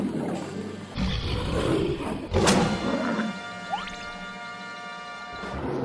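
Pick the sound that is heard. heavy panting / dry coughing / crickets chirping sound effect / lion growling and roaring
lion growling and roaring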